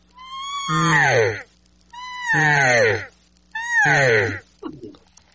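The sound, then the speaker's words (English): Three loud, drawn-out imitated elk cow mews, made on a cow call with the voice thrown in, in a steady series. It is a raspy, estrus-type demand mew. Each starts on a high thin note and slides down into a raspy, nasal wail, followed by a brief breathy sound. “It's really where it's a demanding mew for somebody to do something.”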